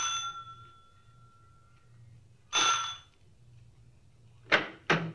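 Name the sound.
front doorbell ringing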